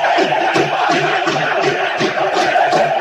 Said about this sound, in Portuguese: Dentro os gritos da torcida aí, ó.